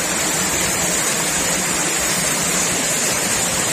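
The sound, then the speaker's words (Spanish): Hail and heavy rain pound down in a steady, dense roar during an afternoon storm in Teruel, Spain, a constant hiss with a rough rattling texture that fills the whole clip, loud, with no voices. “Así granizó, por ejemplo, por la tarde en Teruel.”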